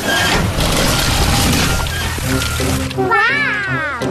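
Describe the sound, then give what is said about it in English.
Loud, steady gushing of water from a broken underground water pipe beneath a road rushes for about three seconds, then a high, wavering squeal-like voice cuts in over it near the end. “It's coming from a broken water pipe underground.”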